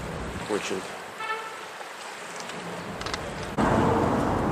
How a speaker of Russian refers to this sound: Мы снова вышли к речушке местной. Очень бурные воды и цвет такой, талые воды, наверное.